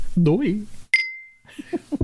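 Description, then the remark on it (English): Two drinking glasses clink once in a toast, a bright sharp tap with a clear ringing tone that fades over about half a second. Voices talk just before and after. “I won't say anything else because we're going to cheers and then we're going to tasty, tasty.”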